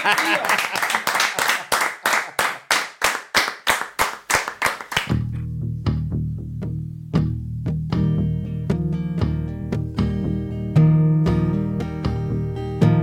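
An audience claps for a musician performing live on a programme, in a steady, even rhythm for about five seconds, sharp and loud, before a song with sustained tones and singing takes over.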